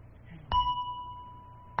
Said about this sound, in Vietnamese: Cho nên trước khi mình thỉnh vang lên một tiếng thì mình phải thức cái chuông để nó rung chuyển. Một cái loại kim khí này nó có cái chuyển động để khi đó mình thỉnh một tiếng mạnh nó không bể.